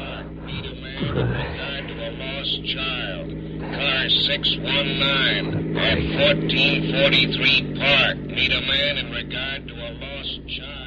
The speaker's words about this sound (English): Boys, police car cruising.